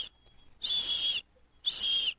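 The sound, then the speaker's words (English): Two high, shrill whistle blasts, each about half a second long, separated by a brief pause. Piercing and fairly loud, with no talking in between; a fake dog whistle. “Is that a dog whistle? That was a fake dog whistle.”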